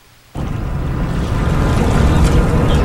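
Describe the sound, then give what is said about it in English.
Rowing shells of a group of 30 young women at an Olympic development camp, starting a morning rowing session on the Schuylkill River, pulling oars and gliding through the water, with a steady wash of water and breezy outdoor rumble that starts abruptly and stays loud, no voices. “On a recent Wednesday morning, the group of 30 young women is just starting a morning session of rowing on the Schuylkill River.”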